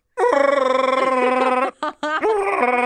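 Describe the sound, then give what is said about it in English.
A person's voice imitates a dog's groaning whine: a loud, sustained wavering moan that breaks off briefly with a couple of short catches, then swells back into another drawn-out whine. “I can do a dog noise.”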